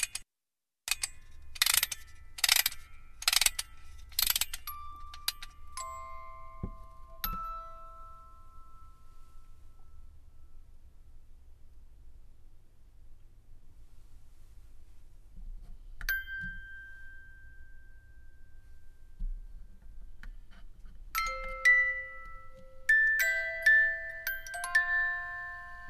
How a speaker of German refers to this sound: Weave, so heißt ihr Stück, beginnt mit einer Spieluhrmelodie